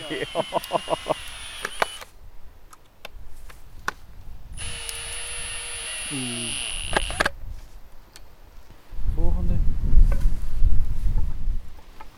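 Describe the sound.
A power drill whines in sustained bursts, its pitch sliding as it drives a screw into a wooden block, with sharp clicks and knocks between runs and people talking over the end.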